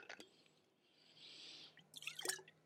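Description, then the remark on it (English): A quiet sip of water: a soft slurping hiss, then wet clicking mouth and swallowing sounds, with no talking. “Okay, I'll take one more sip of water.”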